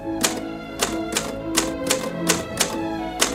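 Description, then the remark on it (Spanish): Mechanical typewriter keys clack in a steady, unhurried rhythm, about eight sharp strikes, with no voices present, as names from a dictated list of people are typed. “La máquina de Esther continúa tecleando nombres.”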